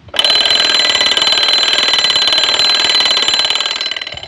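alarm clock bell ringing

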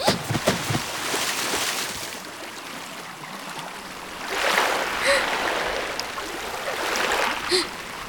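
river water flowing

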